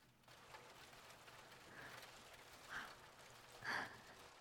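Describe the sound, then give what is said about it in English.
Steady, soft hiss of heavy rain falling outside, heard through an open window, with a couple of brief louder splashes near the end and no one talking. “it is really coming down out there.”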